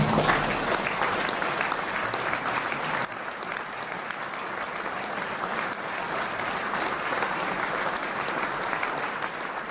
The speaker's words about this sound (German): Applaus